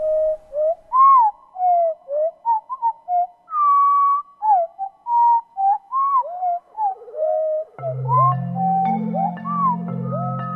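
The song of a tiny 10-gram wren slowed way down into a run of swooping, gliding whistles and moans that sound like a humpback whale, with a deep sustained hum joining in for the final few seconds.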